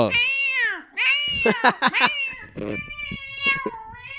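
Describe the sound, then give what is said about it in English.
A voice imitates a screaming cat with loud, drawn-out yowls that rise and fall in pitch, broken by a few sharp choppy cries partway through, with no talking. “That's like the first cat buck chandelier scream.”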